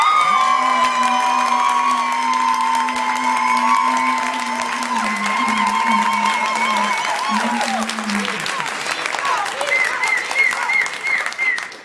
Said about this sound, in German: Euer Applaus für diese Frage.